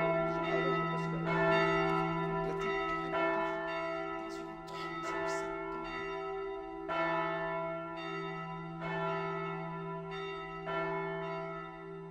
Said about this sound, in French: Mais tu vois, moi j'ai un grand regret, c'est que le dimanche matin, bon, je ne vais pas à la messe, mais quand les cloches sonnaient à toute volée, mais c'était magnifique. Parce que c'est joyeux, tu vois, ça fait un son...